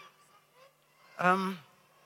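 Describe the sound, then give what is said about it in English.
A child's voice gives one short, nasal "quack" imitating a duck, fairly loud, with only faint room murmur before and after. “You're the duck who says quack.”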